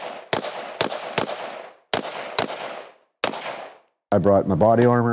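Six sharp, loud gunshots crack out in uneven clusters during a militia training exercise in Pennsylvania, each trailing off in an outdoor echo; a person starts talking right after the last shot.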